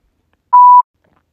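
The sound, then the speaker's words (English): A telephone gives a single short, steady electronic beep, clear and fairly loud, with a faint click at its start and silence on either side. “Oh shit, the phone.”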